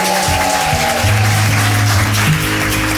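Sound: audience applause and cheering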